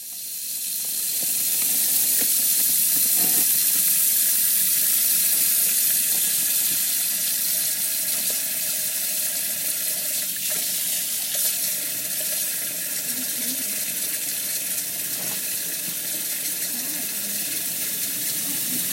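Tap water runs in a steady hiss for the whole stretch, filling the first bath of a 3-day-old newborn at a maternity ward in Ixelles, water at 37 to 37.5 degrees, with a few faint knocks and splashes underneath and no voices.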